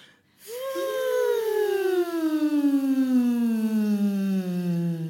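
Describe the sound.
A breathy, airy voice sings a glissando vocal exercise on a long 'wuh' with lots of air, sliding slowly and smoothly from a high pitch down to a low one, sustained for about five seconds, with a second voice seemingly joining in.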